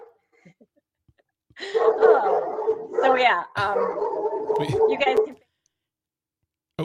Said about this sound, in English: Sorry, my dog's barking. Your dog is very upset about this too. Yes, your dog is not happy.